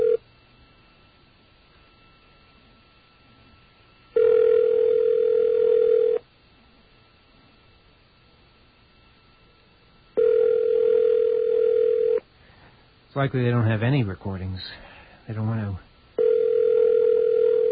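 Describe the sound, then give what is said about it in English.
The ringback tone of an outgoing call to a management office late at night, a steady mid-pitched burst of about two seconds repeating every six seconds, with a man speaking briefly between rings. “Well, be assured that anybody within the sound of that ring is wearing their hat on the right way.”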